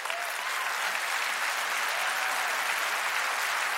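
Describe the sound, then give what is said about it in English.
Steady, sustained applause from a crowd cheering for people who have just trusted Christ, a dense wash of clapping that stays at an even, fairly loud level throughout with no voices standing out. “And we're cheering for you because we know we're going to spend eternity with you.”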